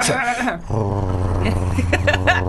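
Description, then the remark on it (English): A person imitates a dog's growl, opening with a higher, wavering vocal sound before dropping into a low, steady, rumbling growl held loud for a couple of seconds. “Because sometimes you start a growl, it's not quite, you're like, and then you go.”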